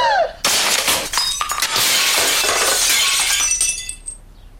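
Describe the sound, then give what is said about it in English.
A glass swan is flipped into a picture, shattering both: a loud crash of breaking glass bursts in, followed by a dense, sustained cascade of shattering shards and tinkling fragments that gradually thins out and fades over a few seconds. “He flipped the glass swan into the picture, shattering both.”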